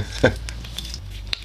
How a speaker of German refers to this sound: Ah, habt ihr dieses wunderbare Plöpp des Korkens gehört?